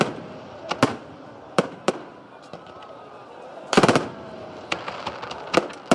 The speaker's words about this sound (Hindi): रात 12 बजते ही आतिशबाजी का भी शानदार मुजाहिरा किया गया।